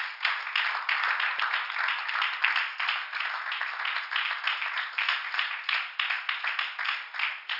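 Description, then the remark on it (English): An audience claps hands together as a hand clap of praise to the Lord after a prayer, in sustained, dense applause, many overlapping claps forming a steady, crackling wash that holds at an even loudness for several seconds with no voices standing out. “In the name of Jesus, can everybody give the Lord a hand clap of praise?”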